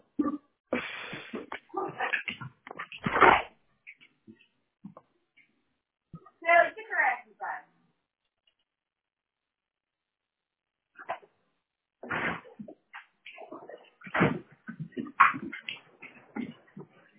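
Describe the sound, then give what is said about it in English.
A dog that has just gone out the door barks loudly at a UPS delivery driver in several clusters of sharp, repeated barks separated by quiet pauses, with a person's voice mixed in at times. “My dog actually just went out the door.”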